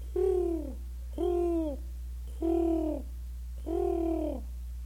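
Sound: pigeons cooing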